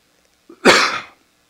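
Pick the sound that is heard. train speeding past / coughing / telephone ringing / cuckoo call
coughing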